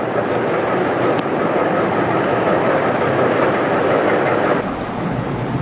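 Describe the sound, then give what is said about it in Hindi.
A steady, unbroken whooshing drone from an electric fan, loud and even throughout, with no voices, easing slightly near the end. “और ये पंखा बंद कर तो सुनाई नहीं पड़ता है, इसकी आवाज ज्यादा आती है।”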